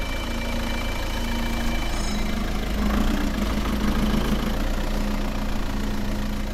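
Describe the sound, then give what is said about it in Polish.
A car engine rumbles steadily near a parish church in Ochla, swelling slightly midway as the car pulls up, then settling into a low, continuous idle. No voices are heard. “Samochód podjeżdża.”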